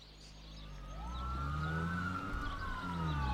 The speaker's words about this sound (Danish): Men den landlige eftermiddagsidyl blev brudt af hylende politisirener fra 5 patruljebiler på landevejen lidt vest for Horsens. Der var en biljagt i gang.